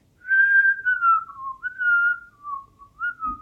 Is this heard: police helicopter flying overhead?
no